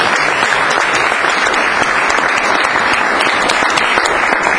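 An audience claps steadily for several seconds, a dense, loud wash of many hands with no individual claps standing out and no voices on top.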